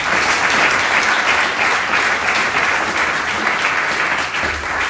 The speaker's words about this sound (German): Also nochmal einen riesen, riesen Applaus